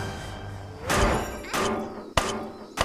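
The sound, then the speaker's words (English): Heavy hammer blows thud down on a wooden stake as a 'no baby' sign is hammered back into the ground, four strikes at an uneven pace, the last ones sharper, over a faint steady musical hum. “Vijay uses a hammer to stick the no baby sign back in the ground.”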